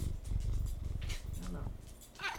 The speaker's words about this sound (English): Yeah, she's like purring into the mic.